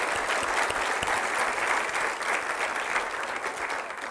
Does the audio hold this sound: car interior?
no